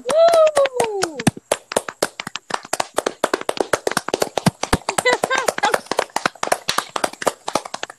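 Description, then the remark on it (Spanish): Applause from a small group: quick, sharp hand claps keep coming steadily for several seconds, fairly loud, opening with a short vocal whoop over the first claps. “Nuevo, un aplauso.”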